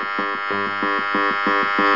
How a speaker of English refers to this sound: This is a baby monitor.